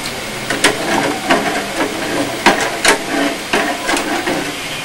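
A pot of jelly mixture boils on the stove, its sugar melted, a steady hiss with irregular pops and small clicks spaced through it, moderately loud, with no one speaking.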